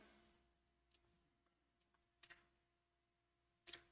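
Soft, scattered rustling of pew Bible pages being turned to Genesis chapter 2 on page 2, a few faint papery swishes followed by a crisper pair of page flips near the end, with no talking.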